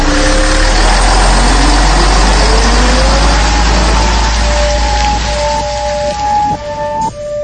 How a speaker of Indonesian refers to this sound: Ya, mobil minibus jemputan pun sudah datang. Aku masuk ke dalam bis, dan saat itu aku duduk di jok depan.